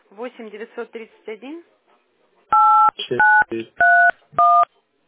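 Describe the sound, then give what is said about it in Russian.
A person speaks briefly, then four loud, steady dual-tone beeps sound from a phone keypad as a phone number is typed into the phone, each press distinct, with short murmurs between them. “Давайте я на телефон сразу запишу.”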